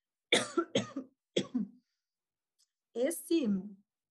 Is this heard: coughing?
yes